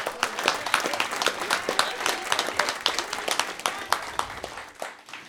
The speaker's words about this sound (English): How about a round of applause for the Project Drew team?